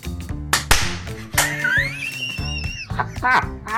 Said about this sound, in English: You sure you don't want to clap? What, like a clapperboard on a movie set? Yeah, we can do. So let's clap in sync then. Here we go, ready?